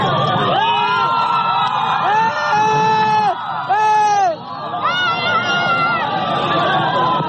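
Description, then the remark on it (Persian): A large crowd of Guaidó's supporters cheers and shouts loudly and continuously as he boards a helicopter, many voices overlapping into a dense roar with rising and falling calls throughout. “در ادامه همین ویدیو آقای گوایدو در میان تشویق و حمایت هوادارانش سوار بر هلیکوپتری می شود که او را به مکان نامعلومی منتقل می کند.”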